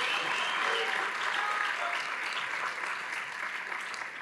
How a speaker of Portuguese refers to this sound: Sabe, irmãos, se você vai aplaudir a Jesus, tem que ser forte.